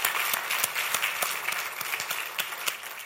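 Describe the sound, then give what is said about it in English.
An audience applauds to thank the Lord, a dense wash of many hands clapping at once with sharper individual claps popping out, sustained at an even level for a few seconds with no talking. “Since I'm going to be talking about giving, I want to hear you thank the Lord and applaud and say, God, we praise you for this word, amen?”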